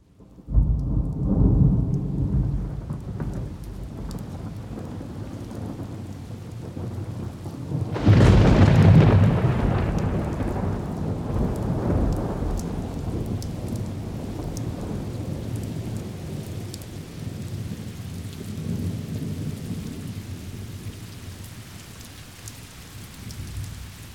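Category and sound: nature, thunderstorm with rain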